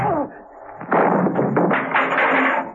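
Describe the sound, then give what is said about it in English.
A hard punch lands, then a loud crash as a man is knocked over a table in a prison cell, with several heavy thumps and clatters in quick succession. “Before Baxter could recover from his surprise, Rostov landed a terrific blow, knocking him over the table.”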